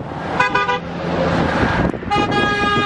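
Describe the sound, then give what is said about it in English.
Car horns honk from passing traffic on a roadway in Salina, Kansas, drivers honking in support of a roadside pro-Trump protest: one short blast followed by a longer, sustained toot, loud over a steady roar of road noise. “Look at that. People honking.”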